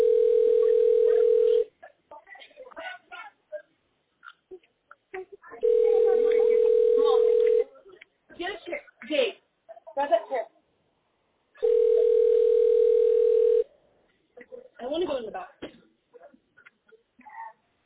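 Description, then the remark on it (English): A telephone ringback tone sounds three times in long steady bursts, each a couple of seconds, with muffled voices talking in the gaps between rings as a call to 911 goes unanswered. “They won't even answer the phone.”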